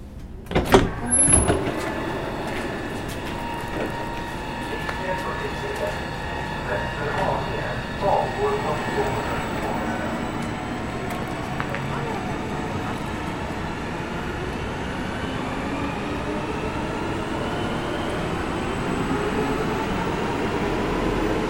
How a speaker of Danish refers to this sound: Så er vi lige stedet af toget her i Älvsjö, som det hedder på svensk.